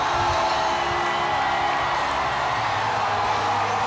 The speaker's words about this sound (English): Listen to the crowd. We are pumped to be here. Our players are thrilled to be atop of ladder trucks in downtown Houston. The crowd, I can't even describe the energy.